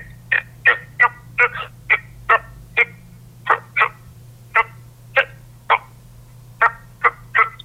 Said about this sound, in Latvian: sausu, grumbuļainu ādu bez svītrām un plankumiem, tad tas ir parastais krupis.